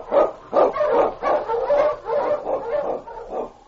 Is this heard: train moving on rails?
no